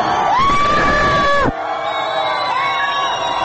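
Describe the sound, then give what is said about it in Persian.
A large protest crowd in Iran chants harsh slogans against the regime loudly in unison, sustained shouted voices rising over a dense roar of many people, dropping off briefly midway before the chanting picks up again. “وقتی جمعیت با صدای بلند شعارهای تندی را علیه نظام سر می دهد، ناگهان صدای تیر بلند می شود و دود گاز اشک‌آور می پیچد میان جمعیت.”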